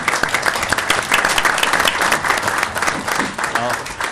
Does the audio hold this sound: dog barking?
no